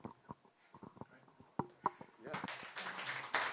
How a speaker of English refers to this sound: Look, I'm loving the clapping. That's twice. It's never happened to me before. Thank you.